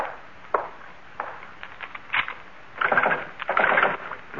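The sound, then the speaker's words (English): A back door being locked: a run of sharp clicks and wooden knocks, then two longer rattling scrapes as the bolt is worked. No one speaks. “Well, first the back door.”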